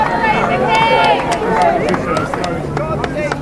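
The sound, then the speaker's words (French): A loud, dense crowd cheers and shouts outdoors at the palace gates as the king steps out of his car to greet them, many voices overlapping continuously, "God save the King" called out, with sharp scattered claps or clicks cutting through the din. “C'est un moment assez émouvant parce qu'on entend pour la première fois « God save the King ».”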